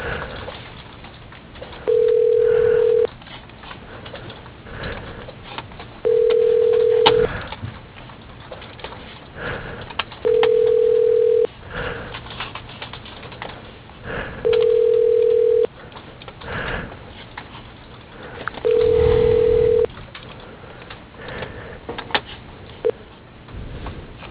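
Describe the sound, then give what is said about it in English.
A telephone ringback tone repeats five times at an even pace while the call is transferred to the receptionist, each steady mid-pitched ring lasting about a second with gaps of roughly three seconds, over a faint background hiss and no voices. “Your call is being transferred to the receptionist.”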